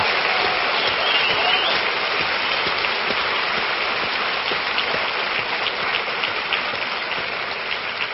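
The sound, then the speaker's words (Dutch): An audience claps for the people who made the booklet, steadily throughout, a dense, even wash of many hands that holds at a constant loud level for the whole stretch without pause or swell. “Dat was inderdaad het applaus waar ik naar zocht.”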